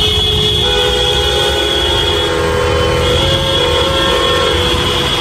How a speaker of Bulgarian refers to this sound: Точно 12 часа прозвуча и сирена, към която се включиха и автомобилни клаксони от колите по улиците.